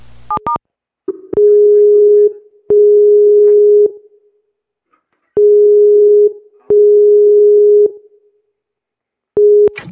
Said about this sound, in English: Okay, I just pick up the phone and you can hear a click.